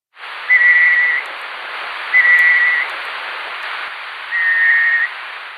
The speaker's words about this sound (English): Before 2013, scientists did not know what the birds sounded like. But then a night parrot was found in the state of Queensland.